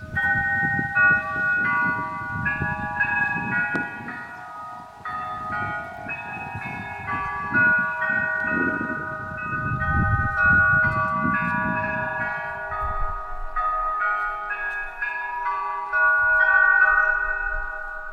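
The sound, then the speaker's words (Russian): A carillon-like melody of bell chimes rings out steadily from the bell tower of the Valdai Iversky Monastery in Novgorod Oblast, played through loudspeakers as a recording of the Trinity-Sergius Lavra chimes made in Sergiev Posad, with low rumbling background noise underneath and no talking. “Вот этот звук, интересный пример, куранты Валдайского Иверского монастыря в Новгородской области очень похожи на куранты Троицы Сергиевой Лавры в Сергиевом Посаде.”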